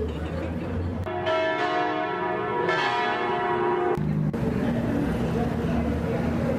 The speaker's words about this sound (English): I will cease to speak now, and just play you maybe, if I can, just a few moments of that beautiful ethereal bell moment.